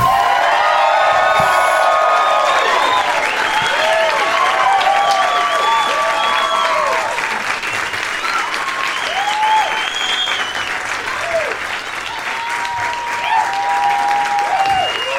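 A crowd at the Punchline Comedy Club in Atlanta, Georgia applauds loudly and steadily, with scattered cheers and high whoops rising over the dense clapping throughout.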